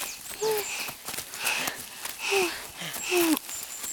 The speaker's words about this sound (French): Et c'est là que la petite troupe arrive tout essoufflée.